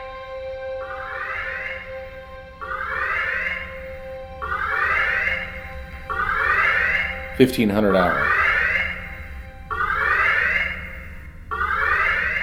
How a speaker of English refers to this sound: Alarms screeched like banshees and red lights flashed.